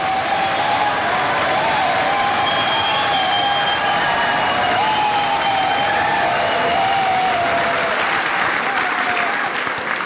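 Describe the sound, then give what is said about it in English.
Sustained, loud applause from a large crowd of Republican legislators giving a standing ovation in the US House of Representatives, dense clapping with scattered cheers and whistles running steadily through the whole stretch without any talking. “Thank you for that very generous applause.”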